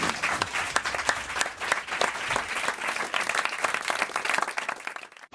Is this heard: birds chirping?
no